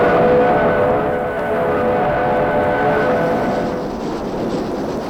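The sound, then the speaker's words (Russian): A train with heated freight cars starts to move as it leaves a town, rumbling steadily with a low, continuous roar and faint tonal squeals or hums, loud, with no voices. “И на следующее утро наш отряд уезжал из города, когда поезд тронулся, из открытых дверей теплушки раздалась веселая песня”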